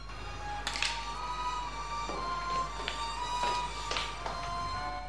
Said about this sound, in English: Night. A note is shoved under Anne's door.